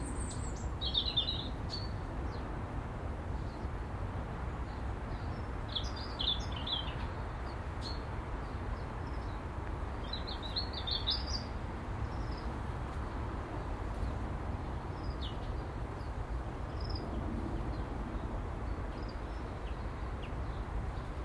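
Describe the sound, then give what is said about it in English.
Scattered high bird chirps and short song phrases come in brief bursts over a steady low outdoor rumble, with only a few birds calling intermittently rather than a full chorus. “There's loads going on, it's just that only a few are singing.”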